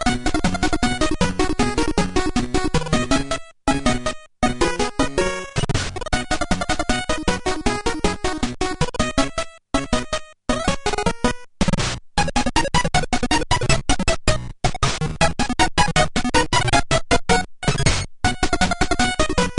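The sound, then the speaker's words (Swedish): Game Boy chiptune music, the first track from the game Kirby's Dream Land: a bright, buzzy square-wave melody with busy bleeping harmonies, steady and loud throughout, broken by a few abrupt split-second dropouts. No one speaks. “Första låten ur Kirby's Dream Land till Gameboy hörde du här i Syntax Error i Frank, som börjar lida mot sitt slut.”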